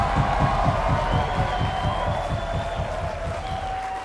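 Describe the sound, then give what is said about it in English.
A crowd applauds and cheers steadily for a band, dense clapping with scattered whoops and a sustained whistle rising above, fading slightly toward the end. “let's get a hand of the … band”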